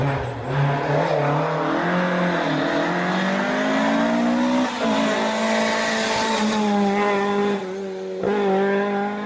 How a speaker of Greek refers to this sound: Το 131 Barth νομίζω είναι αυτοκίνητο που το έχει συνδέσει με τους αγώνες, έτσι, χαρακτηριστικός ο ήχος.